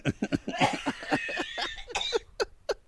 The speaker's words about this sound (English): Y'all, I gotta get, because I'm about to die of coughing.